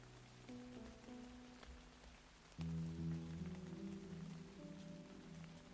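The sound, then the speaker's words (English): Steady heavy rain patters against the glass windows of a second-floor office in a shop house on a June afternoon, a continuous wash, with soft sustained musical tones humming underneath that grow fuller partway through. “It was an afternoon just like this one in June last year. A heavy rain beat against the windows of the agency's second floor office.”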